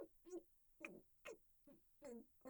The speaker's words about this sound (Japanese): 別に、ちょっと風邪気味っていうか、猫が最近拾ったのが、ちょっとじゃれてきてて。